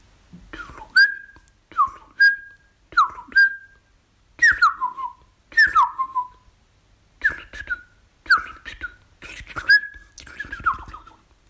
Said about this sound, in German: Tschüss, sagt die Singdrossel.